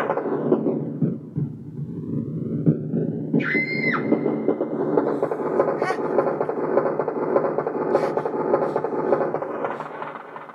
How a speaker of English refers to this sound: Where's the train? Oh, there you go. Right, so here's the train coming through the tunnel.